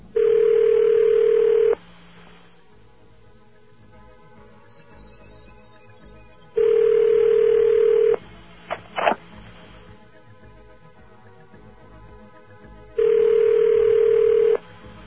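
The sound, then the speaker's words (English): A telephone call to a toll station (Drake's Bad number 2) in the United States ringing on the line, heard as three loud, steady buzzing rings about six seconds apart, each lasting under two seconds, with quiet line hiss and a couple of brief clicks between; no one answers. “And that's it ringing now.”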